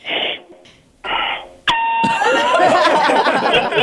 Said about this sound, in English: Yes, what is that? Come, that might be the alarm for the elevator. Get off. Is it capacity? The weight capacity, maybe.